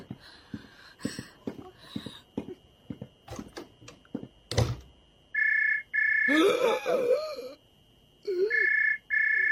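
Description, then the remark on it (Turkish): A telephone rings in steady, high electronic bursts, about three rings, following a stretch of clicks and knocks. A brief wavering voice sounds under one of the rings. “Zeng açtılar.”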